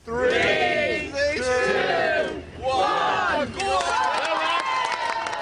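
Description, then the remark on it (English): A small crowd cheers and whoops loudly in sustained bursts, voices rising and falling together, with a brief dip before the shouting swells again, as TV presenter Matt Baker sets off pedalling a rickshaw from the Esplanade at Edinburgh Castle on a fundraising trip to London. “A small but enthusiastic crowd watched Matt Baker set off from the Esplanade at Edinburgh Castle on the first leg of an eight-day journey that should see him arrive at Television Centre in London by next Friday night.”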